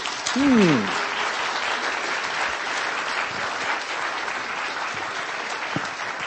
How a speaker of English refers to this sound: Okay, we have to leave it there. Could you give them a round of applause, please?